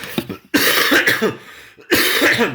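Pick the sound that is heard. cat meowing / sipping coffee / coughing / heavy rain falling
coughing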